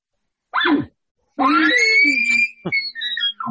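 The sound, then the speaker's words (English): A loud imitated bull elk challenge call, or scream, used while hunting to bring in a bull: a short rising note, then a long, shrill bugling scream that wavers and ends in a few quick grunting chuckles. “Oh, yeah, but hit with the scream, the challenge. With the scream after.”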